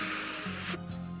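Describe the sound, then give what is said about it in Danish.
A single short spray puff from an asthma inhaler gives a steady airy hiss for under a second and then cuts off sharply, leaving a faint low hum. “Også selv, når han ikke tager astma spray, skal det også lyde sådan.”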